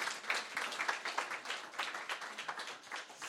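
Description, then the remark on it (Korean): A group applauds steadily, many hands clapping at once in a dense, even patter that holds the whole time without any voices. The applause thanks a deacon for their service. “우리 박수 좀 해주십시오.”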